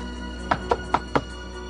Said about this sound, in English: She walks up to a motorhome and knocks on the door.